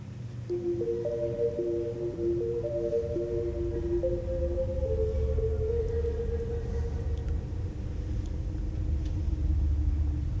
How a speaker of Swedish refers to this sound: Och ni bevittnar någonting. Någonting har kommit rakt mot er. En farkost, en bil, en lätt lastbil. Bländat er.